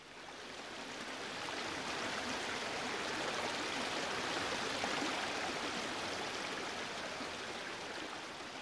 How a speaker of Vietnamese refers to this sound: Mưa to quá, thật là rào rào rạt rạt, mịt mịt mờ mờ.